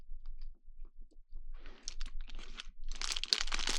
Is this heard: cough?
no